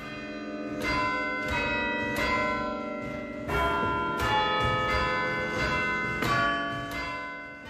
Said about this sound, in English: St Nicholas Church in the city centre is celebrating 700 years with a week of bell ringing.